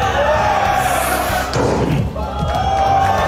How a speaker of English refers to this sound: And to make the point, a designer took a sledgehammer to the door of a normal pickup truck. Well, you can imagine how that went. Big dent.